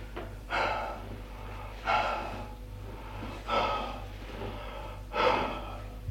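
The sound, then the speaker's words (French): Heavy, breathless breathing of a woman sitting down in an armchair: four loud, rasping breaths, each about a second and a half apart, over a low steady hum and no talking. “Elle s'assoit dans un fauteuil, essoufflée.”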